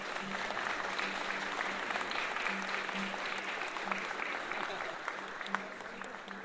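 Steady applause from a group of people in tribute to someone who worked on a music record, a dense crackle of clapping that holds at an even level throughout, with a faint low hum underneath.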